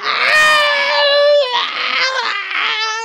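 A long, loud human scream held for about three seconds, wavering in pitch with a brief catch partway through, close and piercing with no other sounds around it.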